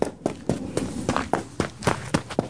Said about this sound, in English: immediately dropped out of the tree and began to run